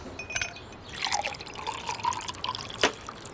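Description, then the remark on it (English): Appleton Estate rum is poured into a glass with a soft, bubbling gurgle and light drips, ending in a brief sharp clink of glass. Quiet and without voices. “Feel free to pour yourself an Appleton Estate.”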